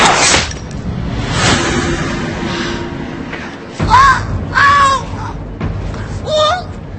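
Two sharp gunshots crack in quick succession at the start of a drama scene, echoing briefly, followed by several loud, harsh crow caws in the seconds after.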